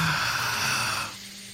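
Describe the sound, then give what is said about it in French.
A long, deep breath drawn in during a shared breathing exercise, a steady airy rush lasting about a second before it fades into quieter room noise. No one speaks. “On prend une grande respiration.”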